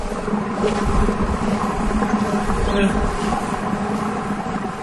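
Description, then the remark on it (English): A steady, loud roiling and hissing rumble of wort violently boiling in a brewing kettle in Mount Horeb after 1,500-degree superheated rocks are dropped in to boil and caramelize it, continuous and churning without letup for the whole stretch, with faint crackles and possible murmured voices underneath. “That's the sound of wort being boiled by superheated rocks in Mount Horeb.”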